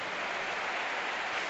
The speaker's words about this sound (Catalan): Canvi en el Villarreal, ovació per al xiquillo. Jackson és així del camp. Aplaudiments per a Nico Jackson.